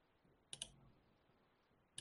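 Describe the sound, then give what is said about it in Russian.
Sharp computer clicks and keyboard taps as someone scrolls through pages on a computer, in two quick clusters, one early and one at the end, against a quiet background with no talking. “Вот как неудобно листается здесь, капец.”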